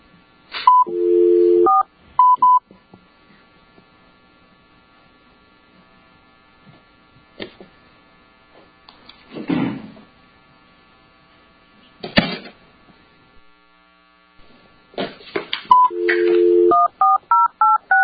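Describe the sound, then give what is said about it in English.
Two quick bursts of telephone keypad dialing tones, short beeping notes at the start and again near the end, as a licensed attorney is dialed into a board hearing, with faint clicks and shuffling noises in the quiet stretch between them. “Complainant can come forward, and I believe we're getting licensed attorney on the phone.”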